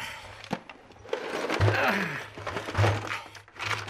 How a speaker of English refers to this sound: He brings me in and empties the kitchen drawer onto the floor.